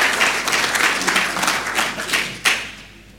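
An audience applauds, a dense, steady patter of many hands clapping at once, with one sharper clap near the end before the applause fades out.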